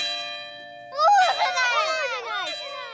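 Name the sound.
bell ringing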